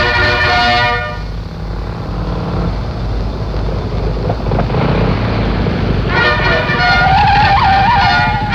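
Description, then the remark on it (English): His Excellency's car's engine rumbles steadily as it pulls up, with loud, harmonic horn blasts at the start and again near the end, sounding insistent. “My car! His Excellency's car!”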